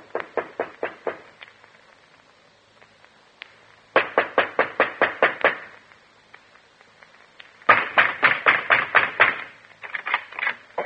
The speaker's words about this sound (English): You're puttering around the house, and I knock at the door.